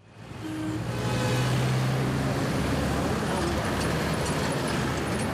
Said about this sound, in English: Abidjan's distinctive orange taxis have been zigzagging through traffic here for decades. But recently, new competition has rolled onto the streets.